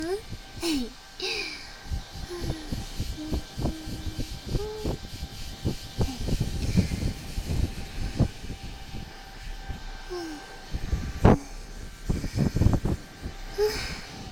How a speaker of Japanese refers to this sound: 家から持ってきたやつだよ。お泊まりの時はね、このドライヤー必ず持ってくるんだ。髪に優しいドライヤーなんだよ。